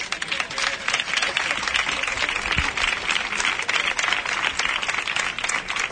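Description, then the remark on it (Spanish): An audience applauds steadily for about six seconds for the members of the Parque Moret platform, a dense, crackling wash of many hands clapping at an even loudness throughout, with no clear voice rising above it. “Un aplauso.”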